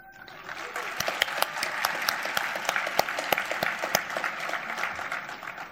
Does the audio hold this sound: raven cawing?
no